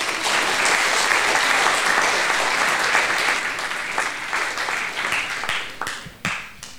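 A crowd applauds with dense, steady clapping that holds strong for several seconds, then thins into scattered individual claps and fades out. No one speaks.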